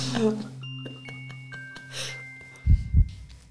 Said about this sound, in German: Brauchen wir gar kein aufgeregtes Herzklopfen mehr.